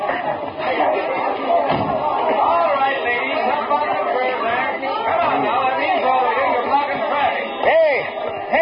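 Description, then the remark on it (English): A dense crowd gathered on a downtown city street murmurs and chatters continuously, many overlapping voices forming a steady, loud babble with occasional sharper calls and a thump or two rising out of the noise. “Something must have happened. Look at that crowd.”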